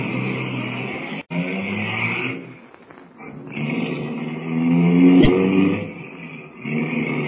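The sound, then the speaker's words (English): A car engine hums steadily, then its pitch climbs and falls as it revs and pulls away, a loud continuous motor drone with a brief click near the start. “Here's the car. Hop in.”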